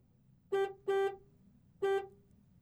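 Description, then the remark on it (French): A car horn honks three times: two quick blasts close together, a pause, then a third. The tone is steady and bright, heard alone at moderate volume with no talking. “Voici l'automobile.”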